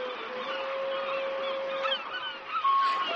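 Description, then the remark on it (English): A flock of wild swans honks steadily, their overlapping calls forming a continuous, moderately loud chorus with a few sharper cries standing out near the end. No one speaks. “Swans! There are wild swans.”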